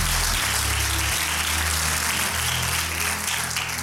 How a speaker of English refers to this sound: Can you clap your hands?